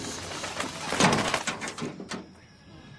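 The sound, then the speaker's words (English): A crow's wings flap in a quick, fluttering burst as it lands on the bonnet of a school bus, followed by a few soft scrapes and taps on the metal. “A crow lands on the bonnet.”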